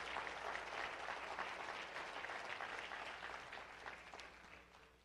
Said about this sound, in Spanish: Bata esas palmas y dele gloria al Señor. Dele gloria a Dios.